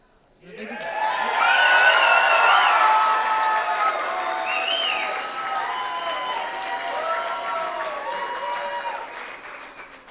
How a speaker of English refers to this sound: Last but not least, let's give these kids a big round of applause for all of the hard work and dedication they put in to delivering this magnificent show to all of us.